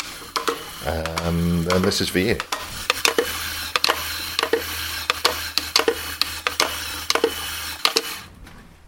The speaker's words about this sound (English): The sound you just heard was being played, of course, on the lid of a pot noodle. Yeah, it's not good to use when you're hungry because it takes about 3 hours to get through the lid.